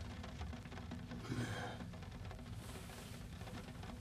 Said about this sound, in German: Wo der Regen ob Dach plattert